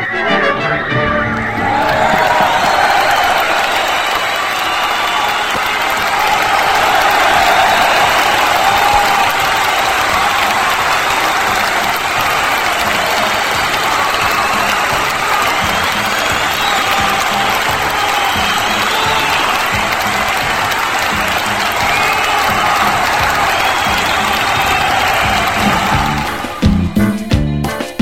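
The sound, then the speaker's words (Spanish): A crowd applauds steadily for nearly half a minute, celebrating the return of a show's short intro, dense and loud clapping with scattered cheers and whoops mixed in, cutting off abruptly at the end. “y efectivamente, pues sí, también se merecía su segmento de aplausos el haber regresado a este pequeño intro”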